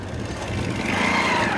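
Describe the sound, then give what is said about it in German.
Two motorcycles approach from a distance and slowly pass by, their engines droning steadily and growing slightly louder over a second and a half, a broad rumbling low hum with a brighter whine rising in the middle. “Aus der Ferne sind Motorgeräusche zu hören. Sie kommen näher.”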